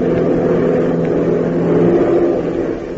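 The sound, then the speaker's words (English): A small Beechcraft plane's engine roars as the throttle is opened wider, flying through the late morning sky: a steady, loud drone, its low humming tones holding throughout and swelling slightly before easing off at the end, with no voices. “Pop makes a grim prophecy, but a logical one, and so opens the throttle wider, sending the beach craft roaring through the late morning sky.”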